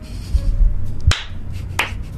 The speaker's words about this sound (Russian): Вот слышите, я надеюсь, я аплодирую Тимуру.